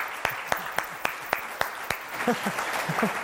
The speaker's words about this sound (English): I think we should give her a big round of applause